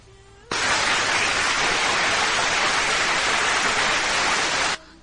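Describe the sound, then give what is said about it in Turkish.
A loud, dense burst of crowd applause played on a radio show, many hands clapping in a steady roar for about four seconds, starting and stopping abruptly with no voices over it. “Evet, alkışlar da benden sana geldi.”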